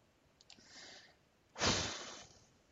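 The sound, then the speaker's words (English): A couple of small clicks and a soft rush of air, then a loud, full-bodied thud-like whoosh that slowly fades, like a door swinging shut. No one speaks. “There's a door.”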